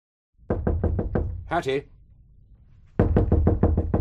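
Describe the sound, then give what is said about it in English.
Loud, rapid knocking on a door in two bursts of about five or six raps each, separated by a short vocal exclamation and a pause. “I know perfectly well that you can hear me. Open this door at once.”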